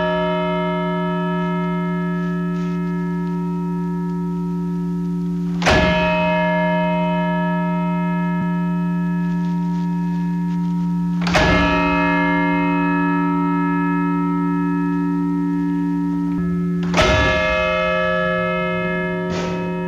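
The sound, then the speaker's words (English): A large bell in Plymouth, rung at 9 o'clock, tolls three times at slow, even intervals, each strike loud with a long, humming resonance that rings on between blows, shaking the platform with each toll. No one speaks. “The selectmen requested that we begin ringing the bell at 9 o'clock, and that's what we'll do now.”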